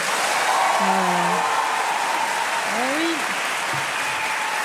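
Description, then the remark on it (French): An audience breaks into steady, loud applause to vote in favour of a bill on menstrual leave, filling the whole stretch, with a few voices calling out faintly beneath the clapping. “Et là, par applaudissement, qui est pour?”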